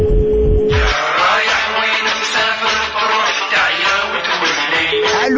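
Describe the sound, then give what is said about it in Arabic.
A steady telephone line tone hums briefly as the first phone call of a call-in programme is placed, gives way to several seconds of loud, crackling line noise, then returns at the end. No one speaks. “نتوكل على بركة الله بأول تليفون.”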